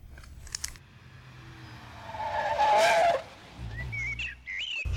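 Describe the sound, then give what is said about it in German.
A car rolls up at a forest hut and its tires squeal in a loud, drawn-out skid that peaks mid-clip, followed by a low engine rumble and a few chirping birds in the background. “Vielleicht ist die Person im wartenden Auto ihre Komplizin. Endlich kommen sie, dass sie sich wagen, uns warten zu lassen.”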